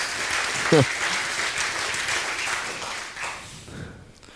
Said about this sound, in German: Also vielen Dank an euch. Der Applaus gilt euch. Das war wirklich genial.